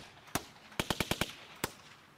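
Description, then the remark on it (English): Sharp gunshots sampled on a music beat crack in a rhythmic pattern: one shot, a tight burst of five evenly spaced blasts, then a single final shot, loud with no voices. “Anybody's ever heard, it's made out of gunshots. Gunshots on a beat.”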